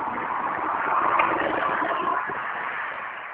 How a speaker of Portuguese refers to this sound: tá passando um caminhão aqui agora.